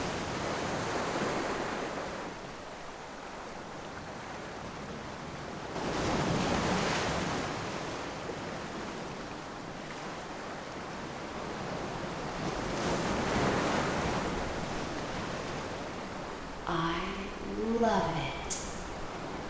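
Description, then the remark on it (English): Ocean waves wash steadily onto a shore, with two larger surges swelling and crashing in turn amid constant surf hiss; a brief voice-like sound rises near the end. “Her waves are soothing, comforting, and mystifying.”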